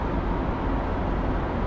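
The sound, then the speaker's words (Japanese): A steady, loud low rumble fills a car cabin as it drives on old, worn tires, a dense roar of road and tire noise that holds constant with no talking. “これは古くなったタイヤで走っている時の車内音。”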